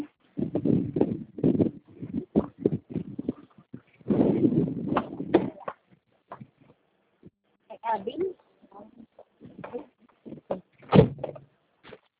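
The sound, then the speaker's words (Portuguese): A car door is handled as a woman on a phone call gets into the car on a noisy street: rustling clatter and bursts of movement build toward a sharp, loud thud as it shuts near the end, with brief murmured talk in between. “Eu só estou entrando no carro, só um minutinho, por Ok.”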